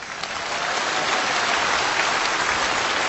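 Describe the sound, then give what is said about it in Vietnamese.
The audience at a Buddhist monk's dharma talk claps steadily in dense, sustained applause that fills the whole moment, loud with no voices over it. “À, cho một tràng pháo tay nữa.”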